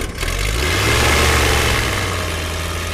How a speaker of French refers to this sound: Allez, il est temps de démarrer le moteur, une démonstration impressionnante qui éveille des vocations,